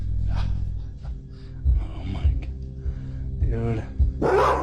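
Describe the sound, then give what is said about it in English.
A dog growls low and lets out a few short, sharp barks over a dull, rumbling background with muffled voices, ending in a louder harsh burst. “However, the dog continues to growl as if sensing its presence.”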